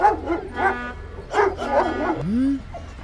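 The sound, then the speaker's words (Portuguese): Several sharp dog barks in an irregular burst, followed by a rising whimpering whine, with no talking over them: sniffer dogs checking crates from a ship just back from Africa at a port. “Deixem os cães verificarem aqueles caixotes ali.”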